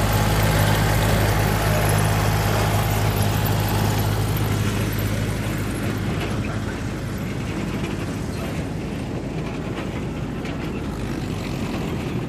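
A small train engine on a narrow-gauge field railway, on the train that runs outside with few passengers aboard, chugs and rumbles steadily with a deep, droning low hum, its engine note easing slightly as it runs on continuously without speech.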